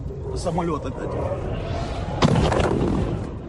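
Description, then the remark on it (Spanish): Gunfire in a street in Kyiv, Ukraine, in broad daylight on the second day of war, with a sharp, loud crack bursting out partway through over a noisy background of voices and street rumble. “Pero hoy, segunda jornada de guerra, los disparos suenan ya en la calle y a plena luz del día.”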